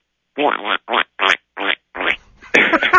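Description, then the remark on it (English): A voice imitates a noise a car makes, likened to a frog call, with a series of about six short, raspy, buzzing croaks in an uneven rhythm, the last one longer and harsher than the rest. “Actually, I'll try to make the sound for you, but it sounds a little bit more like a duck if you can translate it into a frog.”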